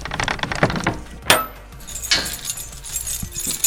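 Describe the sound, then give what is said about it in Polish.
A heavy bunch of keys jingles and clinks in bright metallic bursts, with a sharp clunk as the lock of a small old wooden church turns, followed by more rattling of keys and the church door being worked open. “Kluczy jest sporo, jak Państwo słyszycie. Kluczy jest sporo, bo dużo zabytków. I już wszystkie drzwi i bariery sforsowane.”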